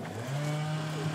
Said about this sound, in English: Now that is quite an interesting mix of sounds, because I can hear quite distinctly a chainsaw, but I couldn't pick up from where it was coming from. I didn't know if it was coming from behind me, from on my left or on my right.